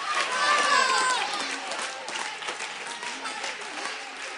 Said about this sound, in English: Clap your hands and get happy.